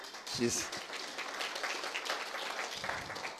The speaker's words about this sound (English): Go ahead. I know you wanted to clap. Go ahead, just clap for her.